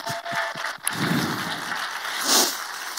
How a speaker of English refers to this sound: The next generation needs to see you. So I'd like to give all our men a big round of applause today.